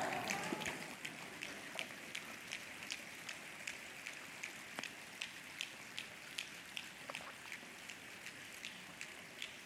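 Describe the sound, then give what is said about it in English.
An audience at a talk snaps their fingers, each trying to snap exactly 50 times: a steady patter of sharp, bright clicks repeating roughly every half second over a soft hiss, loosely overlapping like scattered raindrops. No one speaks. “Snap your fingers exactly 50 times or count backwards from 100 by 7.”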